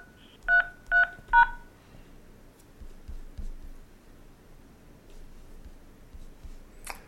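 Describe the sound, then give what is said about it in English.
Three short telephone keypad tones beep in quick, even succession as an attendee ID is entered to join a meeting by phone, clear, followed by several seconds of quiet low background noise and a brief faint chirp near the end. “Enter your attendee ID number followed by pound.”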